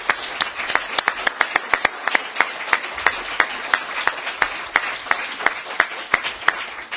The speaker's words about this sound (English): So please join me in a round of applause for these panelists.